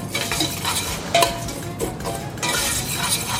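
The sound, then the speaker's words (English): A spoon scrapes and stirs vermicelli through canola oil in a pan, with steady scratchy strokes, light clinks against the pan and a soft sizzle underneath, with no one talking. “So I'm gonna start with the canola oil and then vermicelli, which is very fine kind of pasta. Spoon. We're gonna mix through.”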